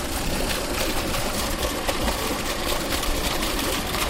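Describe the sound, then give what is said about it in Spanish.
Water pours steadily from a pipe into one of two large storage reservoirs near Leciñena, Spain, where it is stored before being distributed to towns; a continuous, even rushing roar with a dense splashing texture that holds at the same loudness throughout, with no voices. “Es el agua cayendo desde una tubería a uno de los dos grandes balsas en las que se almacena para después repartirse por los distintos municipios.”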